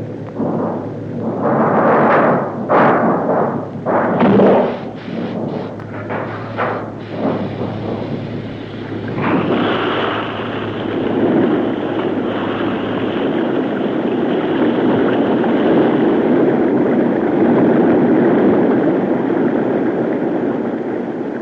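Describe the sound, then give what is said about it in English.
A submarine shakes violently with heavy rumbling, irregular booming jolts at first, then settling into a loud, continuous roar that fills the space. No one speaks. “The boat was being shaken to pieces.”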